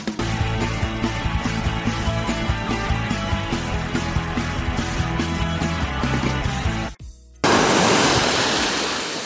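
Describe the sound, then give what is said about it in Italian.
A rhythmic music jingle plays, cuts out briefly, then loud rushing water of waves swirling around feet standing in the water, recorded with a phone held in the water, takes over for the final couple of seconds. “Effetti speciali, i piedi in acqua direttamente sul col telefono in acqua solo per voi a fare il cretino.”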